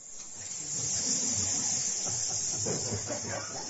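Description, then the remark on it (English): A loud, continuous hissing like many snakes, most likely voices imitating them, holds steady for almost four seconds with a faint low rumble of murmuring underneath. “He opened the door and the hissing of the snakes was so loud.”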